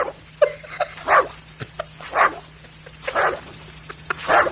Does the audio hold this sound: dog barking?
yes